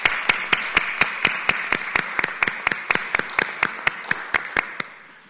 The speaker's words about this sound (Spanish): Entonces, un aplauso al CU Valles por esta valiente decisión.